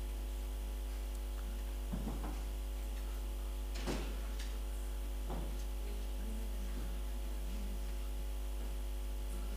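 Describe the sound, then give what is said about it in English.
Two doors being closed: a few dull thuds and clunks spaced a second or two apart, fairly faint, over a steady electrical hum in otherwise quiet surroundings. “Can you please close the doors, both of them?”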